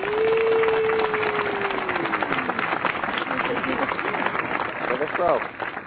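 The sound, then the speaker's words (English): A dense wash of applause welcoming a musician guest onto a show runs steadily throughout, with a sliding whistle-like tone gliding downward over the first couple of seconds and a brief voice-like cry near the end. “I love the applause.”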